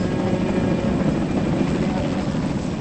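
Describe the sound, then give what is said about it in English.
A helicopter's loud, continuous rotor and engine roar holds steady throughout, a dense whirring drone with no breaks, as it flies off from a pier after lowering a wing fragment of plane wreckage. “A worker rushes over to unhook the cable, and the helicopter flies off.”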